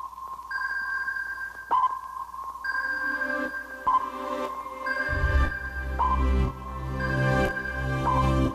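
Sonar pings repeat at a steady pace, each a clear ringing tone with a short echoing tail; about halfway through, a deep low rumble joins beneath them. No one speaks.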